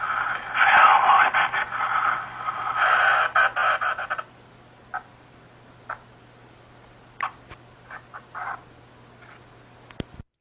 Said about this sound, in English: Over the credits, you hear this static. So over the credits, you hear this.